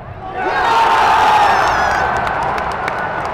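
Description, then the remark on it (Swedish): A large stadium crowd of over 31,000 spectators at a match in the arena roars and cheers in a sustained, loud wall of voices, with a few sharp claps or shouts cutting through near the end. “Inne på arenan var stämningen på topp med över 31 000 i publiken och det blev en målrik match.”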